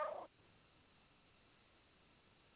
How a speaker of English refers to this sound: I hear a little kitty talking. This is Petey. So, this is Petey coming in and verifying everything.